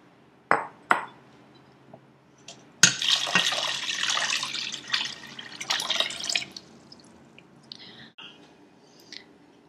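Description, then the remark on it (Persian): A few sharp clinks, then several seconds of swishing and sloshing as water and sugar are stirred together in a container to make faloodeh syrup, ending with faint taps. No one speaks. “آب و شکر رو با هم مخلوط میکنیم.”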